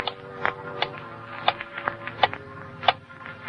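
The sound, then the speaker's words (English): A clock ticks steadily in a dark, quiet house, its sharp, dry clicks falling at an even pace, fairly soft, with no voices over it. “It was so quiet, I could hear the clock ticking.”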